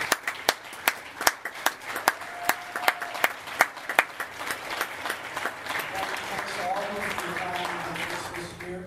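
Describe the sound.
A church audience applauds the volunteers who taught or helped with Sunday school, nursery, Awanas and youth group, starting with loud, distinct, fairly steady claps that thicken into a denser ovation, with voices murmuring and calling out as it builds near the end.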